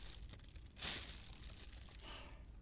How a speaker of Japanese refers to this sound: よしっと、ビニール袋に入れて、これも外に。